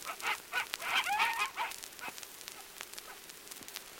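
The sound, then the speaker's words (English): A pack of African wild dogs gives a quick run of high, twittering yelps and chirps, fairly faint, then falls quiet apart from a few scattered clicks. “What are they? Wild dogs. The wolves of Africa.”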